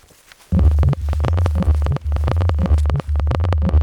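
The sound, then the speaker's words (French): Steady, rhythmic footsteps of two hikers walking downhill at the start of a 19 km hike, a crunching thud every half second or so over a loud, continuous low rumble, with no voices. “Ça fait 10 minutes, un quart d'heure qu'on marche déjà.”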